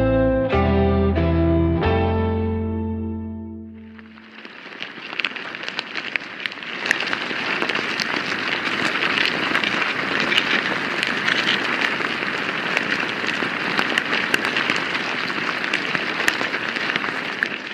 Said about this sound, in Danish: Selvom det her det lyder som regn, så er det lyden af myrer. Lyden den er optaget cirka 10 cm ned i en amerikansk myretue